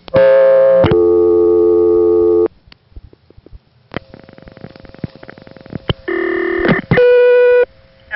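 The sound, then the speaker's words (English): A coin payphone call to the operator from the Edenton exchange: a loud harmonic class-of-service tone telling the operator it is a coin phone, then quiet clicking and line noise, followed by two more strong steady tones, the last one breaking off abruptly. No one speaks. “You'll notice that when the operator answers, there's a class of service tone to let her know that I'm calling from a coin phone.”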